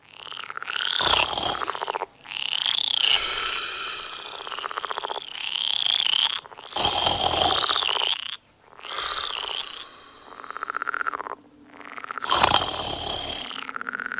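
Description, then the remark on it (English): A dense chorus of frogs croaking continuously, with overlapping raspy calls swelling in loud bursts every couple of seconds, full, with no voices present. “I struggled to stay awake as much as I could, to give her a chance to be deeply asleep before the frog concert began.”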